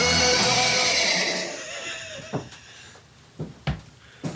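A horse lets out a loud, drawn-out whinny that trails off after about two seconds, followed by a few sharp, scattered hoof clops.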